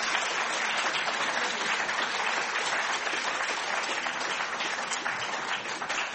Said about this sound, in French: Voilà, bien, nous terminons par de chaleureux applaudissements cette première partie.